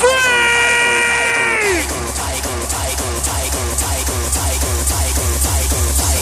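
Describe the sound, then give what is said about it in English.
A loud, sustained scream from a hardcore concert crowd rings out for a couple of seconds, then drops off as pounding, fast heavy hardcore music with thumping bass drums takes over. “let me hear you one more time.”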